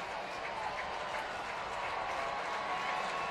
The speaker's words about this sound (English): Crowd making some noise, maybe as much as they've made all night here at PNC Park.